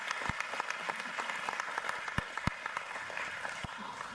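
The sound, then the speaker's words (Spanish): An audience at a church gathering applauds steadily to welcome first-time visitors, many hands clapping in a dense, continuous wash with a few sharper individual claps standing out, moderately loud throughout with no voices. “De todas maneras, le damos un gran aplauso.”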